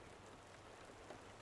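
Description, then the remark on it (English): Soft, steady rain falls without a break, a continuous gentle hiss with faint patter, fairly quiet and even throughout, with no voices. “Oh, I love the rain, the sound of it.”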